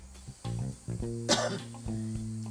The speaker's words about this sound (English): I knew that you were gonna start coughing. You did it way too long.